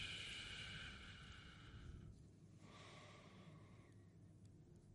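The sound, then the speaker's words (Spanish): A slow, steady exhale blown through pursed lips as if through a straw, during a breathing exercise with eyes closed, fairly loud, with a breathy whistle-like hiss that fades after about two seconds, followed by quieter breathing and room noise. “Inspiramos. Y expiramos como si tuviéramos una pajita en la boca.”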